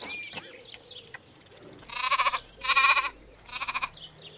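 On a farm, a goat bleats three times in quick succession, each call loud and wavering with a shaky, pulsing tremble, preceded by a few faint clicks and rustles.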